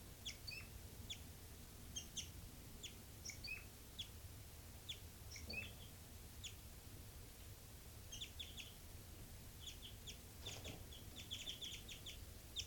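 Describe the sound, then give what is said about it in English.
Bird flight calls: brief, high, sharp chirps in scattered bursts and clusters, fairly faint, repeating irregularly over a steady low background rumble. No one speaks. “5-9 flight calls.”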